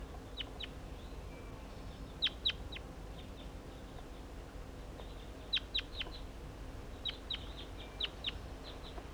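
wild crossbill calls

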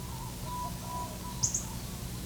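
myna bird calling

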